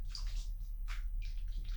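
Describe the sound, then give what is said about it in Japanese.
Wet, squelchy rubbing of soap foam from the hands on skin of the chest, a few irregular hissing bursts over a steady low hum, with no voices. “聞こえるかな、泡の感じの音。”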